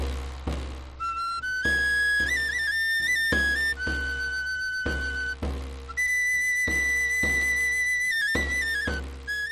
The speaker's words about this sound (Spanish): Este sonido que escuchan es el del Rocío, el santuario onubense de la Blanca Paloma, donde ya se dirigen algunas carretas desde toda Andalucía y España para participar en la fiesta de Pentecostés del próximo fin de semana, como es tradicional.